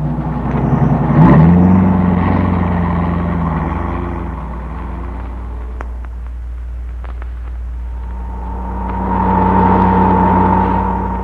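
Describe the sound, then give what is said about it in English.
A car engine starts up and revs, pulling away with a rising pitch, then settles into a steady rumble before a whining surge of acceleration near the end. No voices. “Told the Bureau to have this car ready to pick us up instantly after the truck left.”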